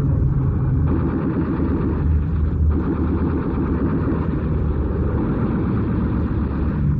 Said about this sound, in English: Look out! Messerschmitt! Hand in the sun, boys! Here they come. So they mean business.